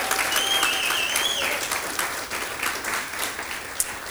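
An audience breaks into sustained applause, a dense steady wash of many hands clapping at an even loudness throughout, with faint whoops and a high whistle rising over it early on.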